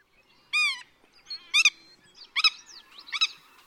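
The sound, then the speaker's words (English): A willet calls four times in loud, ringing bursts roughly a second apart, with softer chattering notes between them; no talking, the calls stand out clearly. “Willet.”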